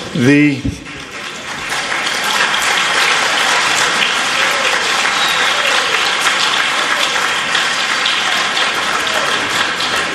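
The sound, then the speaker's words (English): A large crowd at a World Blind Union General Assembly breaks into loud, sustained applause that holds steady for about ten seconds. It is dense and continuous, and a brief voice is heard at the very start. “I've been at all the WBU General Assemblies, and I've never witnessed such a rousing applause.”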